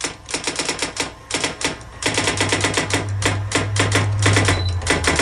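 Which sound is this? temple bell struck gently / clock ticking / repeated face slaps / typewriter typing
typewriter typing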